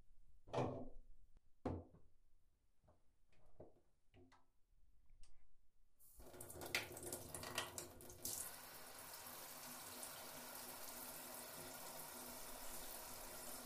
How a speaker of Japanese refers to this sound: 私本当に、本当に、のぼせちゃってもダメですし、そろそろシャワーで流しましょうか？